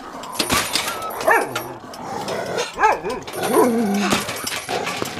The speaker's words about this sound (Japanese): セマ、餌が欲しければ黙ってろ。 こいつらとても賢い犬には見えんよな。